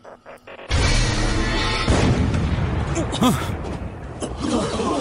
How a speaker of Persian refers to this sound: صدای شلیک توپ؟ اما چرا فقط یکی؟ نگاه کنید، دود!